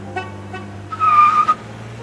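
car driving away

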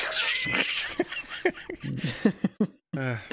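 cat making noise

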